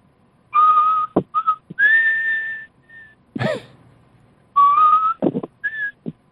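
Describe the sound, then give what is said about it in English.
Someone whistles the bugle call taps: a few slow, clear, held notes that step between a lower and a higher pitch, with audible breaths and short mouth noises between phrases. “Sounds like taps to me.”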